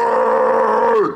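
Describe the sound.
A voice imitates a man's angry shout at two girls with a pram on a shared cycle and footpath, a single sustained, strained yell held for about a second at a steady pitch before dropping off at the end, loud and raw like a roar.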